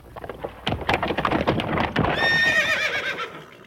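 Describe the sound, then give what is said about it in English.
A horse-drawn carriage rides up to a front door: hooves clop in an uneven rhythm for a couple of seconds, then a loud, high, quavering neigh rises over the continuing clatter. “A few days later, a carriage rode up to the front door.”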